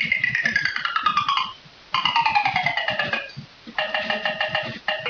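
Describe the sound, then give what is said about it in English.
A pitched-down glass sample rings out in three bright, metallic bursts, each a stack of tones gliding slowly downward in pitch, with a faint low rumble underneath and no talking. “There's the sound of the glass, but if you pitch it down.”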